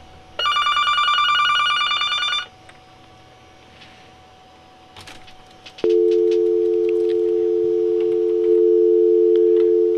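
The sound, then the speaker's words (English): A telephone rings in a two-second burst, then a pause and a few handset clicks as the caller hangs up, and a loud, steady dial tone drones on without a break until the end. “And as you can hear, they hung up.”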